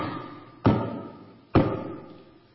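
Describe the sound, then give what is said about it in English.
Two heavy, deliberate knocks on a door, loud, spaced about a second apart, each thud trailing off with a brief echoing decay over a quiet background. “I understand now why so many horror movies use this device, the mysterious knock on the door, because it has the weight of a nightmare.”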